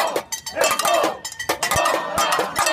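protesters banging saucepans

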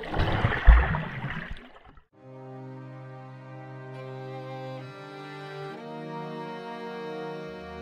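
diving into water

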